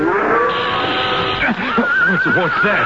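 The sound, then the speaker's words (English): A spooked horse being held by its rider whinnies and snorts in agitation, its wavering cries rising and falling over the steady dry buzz of a rattlesnake's rattle, both fairly loud for about three seconds. “What's that? Rattler. Don't pay any mind. Just hold that horse of yours.”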